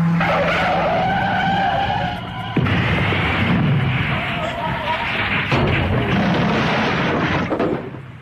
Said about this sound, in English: We hit something. 9 cars, 4 lorries, 2 vans, a horse box, and a hovering kestrel.